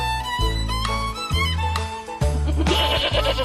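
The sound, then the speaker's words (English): Goats on an organic Kona coffee farm bleating, several loud, wavering calls following one another in quick succession with no pauses of silence between them and no one speaking. “Man, you got donkeys, you got goats, you got geese.”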